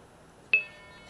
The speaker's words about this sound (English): That was a Wink Supervision.